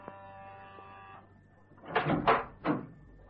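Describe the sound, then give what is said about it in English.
A short electric doorbell buzz rings out at a dentist's surgery, then after a pause comes a cluster of three louder rattling knocks and clatters as the door is pushed open and people enter. No voices. “So we presses the bell and we enters.”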